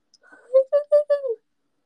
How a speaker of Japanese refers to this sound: 今くしゃみ出てる、くしゃみじゃないこれ。あくびが出てるから